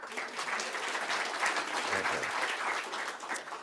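spontaneous audience applause

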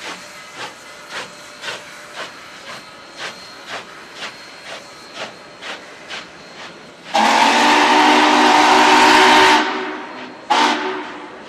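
steam locomotive whistle

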